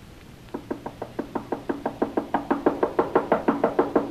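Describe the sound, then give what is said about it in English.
Rapid, insistent knocking on a door by someone demanding it be opened, about twenty sharp raps in a steady rhythm that grow louder and more urgent toward the end, with no voices. “Open that door!”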